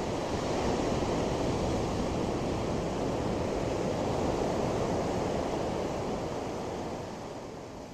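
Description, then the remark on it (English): Cold wind blows steadily outdoors, a loud continuous roar with no talking, easing slightly over the last second or so. “I'm going to end this video with these last few stories because it's cold and windy, and it's going to rain again real quick.”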